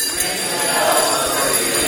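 Bells ring together in a dense, shimmering wash of overlapping metallic tones, holding a steady loudness throughout the short stretch without any clear pause between strikes.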